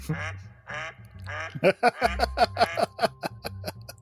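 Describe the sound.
A duck call is blown in a rapid series of nasal quacks, starting with a few drawn-out honks and then speeding into a quick, rhythmic chatter of short calls, loud.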